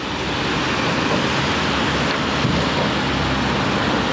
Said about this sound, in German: Windig ist es hier auf der Brücke, aber der Blick ist berauschend.